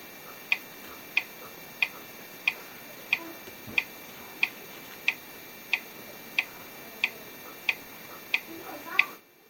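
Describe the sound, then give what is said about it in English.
The VoiceOver screen reader's secure character sound repeats while a password is typed: about fourteen short, high-pitched clicks at a steady, even pace, the last slightly louder, with no talking. “And you will get the secure character sound when you type in your password, and I'm going to press enter.”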